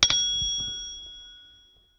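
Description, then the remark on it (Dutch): A single bright bell chime, the page-turn signal of a read-along book, struck once and left to ring out, its clear tone fading over about two seconds. No one speaks. “Hoor je een bel? Sla dan de bladzijde om.”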